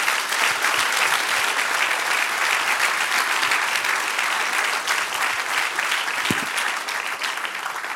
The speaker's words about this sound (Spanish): Dar un aplauso al Señor. ¡Aplausos!